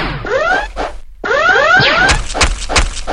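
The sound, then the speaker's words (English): A video game siren, warning that creatures are present off to the right, wails in two rising, harmonic sweeps, separated by a brief gap, followed by a quick series of sharp, loud percussive thwacks. “The siren tells me that there are creatures here, and the louder it gets, and it's off to the right.”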